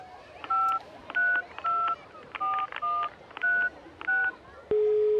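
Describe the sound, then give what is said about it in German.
A phone number being dialed on a mobile phone among bathers: eight crisp keypad tones in a steady rhythm, then a sustained tone cutting in at the end, all over a faint background hum. “Ah, wartet mal, jetzt wähle ich mal mit dem Handy die Telefonnummer, die wir ja haben.”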